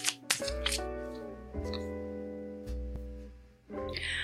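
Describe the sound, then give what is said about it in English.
A deck of cards is shuffled to pick an affirmation, in short crackling bursts at the start and again near the end, fairly quiet, over a steady bed of soft sustained music. “Okay, so let's shuffle these cards and see what we need to affirm.”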